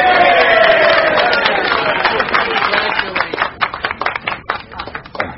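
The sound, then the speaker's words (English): A crowd of Republicans bursts into loud applause mixed with cheering voices after the announcement that Edward Bader is Atlantic City's new mayor. The clapping gradually thins out, ending in scattered, distinct individual claps. “Thank you, one and all, for your kind applause and your generous support.”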